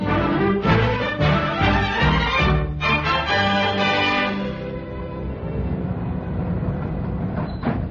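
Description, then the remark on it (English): A train rumbles in on the rails, pulling in at its destination, Giggleswade, its rhythmic clatter loud at first and then easing into a steadier, lower roar, with a faint high squeal near the end. No voices. “So naturally, I was full of eager anticipation as the train pulled in at its destination.”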